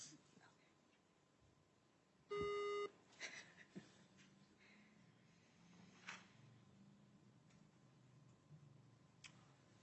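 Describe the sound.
A single loud electronic beep, a steady tone lasting about half a second, rises above a quiet background of faint ticking and soft murmured voices.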